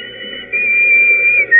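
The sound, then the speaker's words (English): A whistle blown loudly, a shrill steady tone held for about a second, dipping briefly before a final sharp burst, with no voices. “Remember that whistle?”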